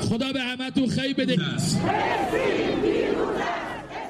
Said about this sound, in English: in Tehran on Friday, feelings were still running high, with crowds chanting anti-Israeli slogans.